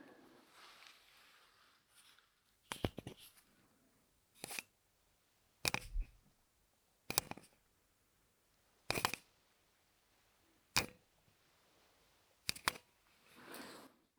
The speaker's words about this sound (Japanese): あまりいい音出なかった。今のはサーフェイスペン。